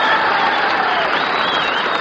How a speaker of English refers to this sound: And I would like Milwaukee to make a large noise in favor of … and the concert in miniatures. Come on, start clapping.